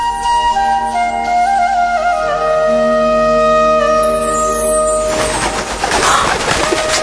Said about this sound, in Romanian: Ia uite, în camera a apărut un porumbel.